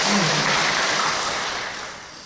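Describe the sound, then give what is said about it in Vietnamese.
An audience claps in honour of fathers in a steady, dense burst of applause that holds through the moment and then gradually tapers off, with no voices over it. “Trong một tràng pháo tay người cha.”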